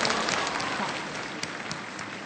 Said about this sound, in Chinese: 所以我们现场的朋友们，我们一起用热烈掌声欢迎这些远道的来宾们。